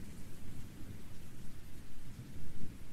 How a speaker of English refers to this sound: Hey, the rain's stopping. Jeez, it feels like it's been ages since it started.